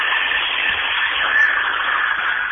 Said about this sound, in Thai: พอดีรถไถวิ่งผ่าน ค่ะได้ยินไหมคะ